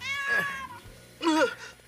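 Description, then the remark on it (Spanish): A kitten meows twice, fairly clear: a drawn-out first meow, a short pause, then a second, slightly higher and brighter one. No one speaks. “¡Ay, pero qué lindo gatito!”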